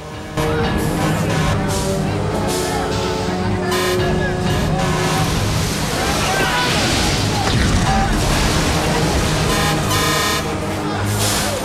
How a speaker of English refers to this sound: A line of fire trucks position themselves behind the horseshoe.